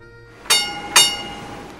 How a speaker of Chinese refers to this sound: 哎，听到了吗？叮叮叮。所以呢这个叮叮叮呢就是电车啦。